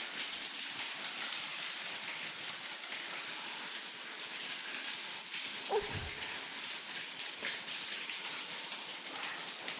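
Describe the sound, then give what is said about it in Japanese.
A steady hiss of shower water spraying without pause as it runs over a person's body, with a brief low knock partway through. No one speaks. “体をシャワーが流れていくだけで、なんか変に思っちゃった。”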